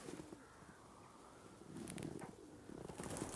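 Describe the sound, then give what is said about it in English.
Pigeons cooing softly in a low, rolling murmur, with several birds overlapping. Faint outdoor ambience and a few brief higher chirps sit around them, and no one speaks. “If you listen carefully, you can hear all the pigeons.”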